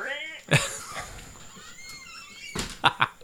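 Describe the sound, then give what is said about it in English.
A door creaks open with a thud, then after a short pause closes with a few sharp knocks and clunks. “Don't worry, we'll leave the door opening and closing in the recording.”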